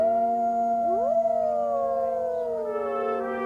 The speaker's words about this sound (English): Into this land, speckled with sage and air swirling with dust, tired oxen lumbered, wagon wheels creaked, brave men and women toiled, and occasionally wolves howled.